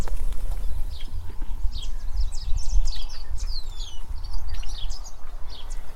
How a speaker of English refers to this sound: It has several buildings located on the property, and this time of year is especially vibrant with wildlife, particularly birds, who are stopping off during their various migrations.